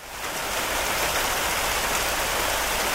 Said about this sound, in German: Da waren nur noch dicke Wolken am Himmel. Stimmt, es wurde richtig kühl. Brrr. Und es hat angefangen zu regnen.